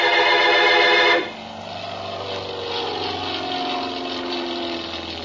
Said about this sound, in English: It was a nice afternoon, so I stood watching some of the planes take off and land.